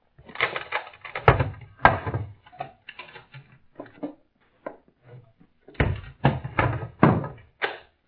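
A heavy wooden door is opened and barred: a cluster of knocks, thuds and scraping clatter, a pause with a few softer bumps, then another burst of solid wooden thunks.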